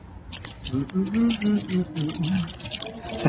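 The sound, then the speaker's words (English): Repeated wet splashes and sloshing as a person stomps through puddles in Riverside Park wearing brand new garden shoes, fairly loud in an uneven rhythm, with a low voice murmuring underneath. “Splashing.”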